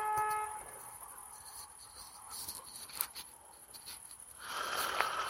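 A short car horn blast sounds at the very start, followed by steady street and traffic noise. Another faint tonal honk rises near the end.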